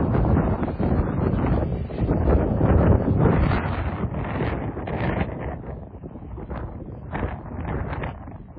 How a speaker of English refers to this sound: It's strong. Wow, still windy out here.